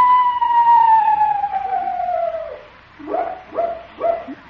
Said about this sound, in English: Leroy, what was that? Owl, Unc.